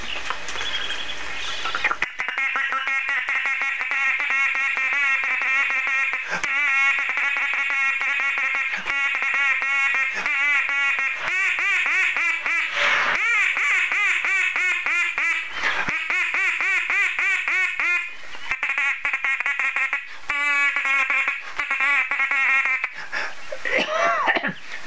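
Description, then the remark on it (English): A person imitates a female duck's feed call: a loud, rapid stream of raspy, chattering quacks running nearly nonstop, with only a few brief pauses and no talking. “That's what they call a feed call.”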